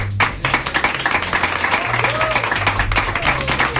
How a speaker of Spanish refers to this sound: Oye, pues muchísimas gracias y os vamos a dar un aplauso.